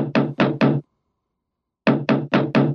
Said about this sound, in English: There is a knock on the door from offstage.